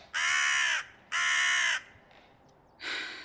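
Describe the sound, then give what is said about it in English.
A raven caws three times, harsh and loud, with short pauses between calls; the third croak comes a little softer than the first two. “Don't you pull the I'm a raven excuse on me.”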